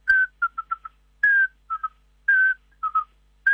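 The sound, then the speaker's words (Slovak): A tawny owl's whistling call: a clear, slightly falling whistle followed by a quick run of short peeping notes from a young owl, repeated three times in a steady pattern with no talking. “To je sova lesná. A potom popiskovanie kubička, to je úplne vábivé, že potom na prechádzku.”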